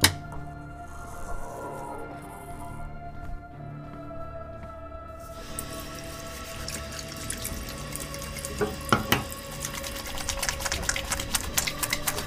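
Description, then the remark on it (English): Running water pours steadily, starting as a soft hiss and then swelling into a fuller, louder rush partway through, with faint clinks and splashes mixed in. No one speaks. “Water.”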